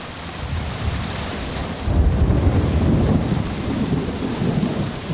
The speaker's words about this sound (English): Rainy season in the forests of Ituri province in northeastern Congo. At its most torrential, a curtain of rain reduces visibility to a few metres.